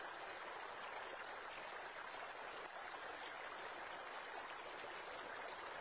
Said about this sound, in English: From the heart of Eden flows a river, the river of life. Its life-giving waters run down a terraced hillside, creating rainbow-colored waterfalls.